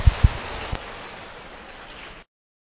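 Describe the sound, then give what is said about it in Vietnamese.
An audience in a hall claps together to invite a Buddhist monk to begin a Dharma talk, a steady, dense burst of applause lasting about two seconds, with a few heavier thumps at the start before it cuts off abruptly. “Xin toàn thể hội trường cho tràng pháo tay để cung thỉnh Đại Đức chúng ta bắt đầu.”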